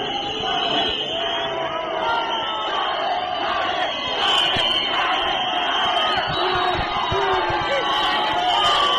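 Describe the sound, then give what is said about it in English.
Hundreds of supporters cheer wildly as Tsvangirai arrives at his party's Harvest House headquarters in Harare's Central Business District: a loud, unbroken roar of overlapping shouts and yells that holds steady throughout, with bursts of louder cries rising above it. “Tsvangirai arrived at his party's headquarters, located in the Central Business District, where hundreds of his supporters greeted him with wild cheers.”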